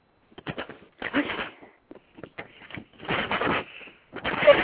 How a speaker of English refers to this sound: Okay, here we go. I'm opening up. I'm unfolding the paper now.